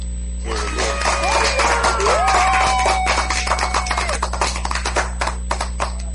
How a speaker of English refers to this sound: Hold on. Let me give you the clap, man.